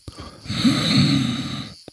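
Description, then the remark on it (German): A single long, rasping snore fills most of the moment, a rough rattling inhale, then a short catch of breath at the end. No one speaks. Someone is snoring late at night in a hammock that blocks the way through a city gate. “Offensichtlich liegt da jemand drin, der schnarcht.”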